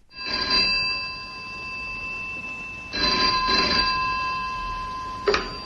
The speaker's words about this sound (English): Text comes in, you know who sent it. The phone rings, you may or may not even answer it.